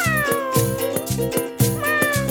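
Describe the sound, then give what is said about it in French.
A cat meows clearly and repeatedly in a song about the sounds animals make, its cries gliding downward in pitch, set against a steady, bouncy musical backing with a regular beat. “Comment fait le chat?”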